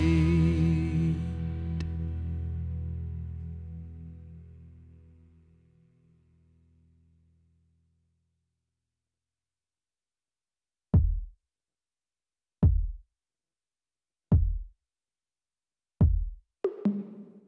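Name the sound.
heartbeat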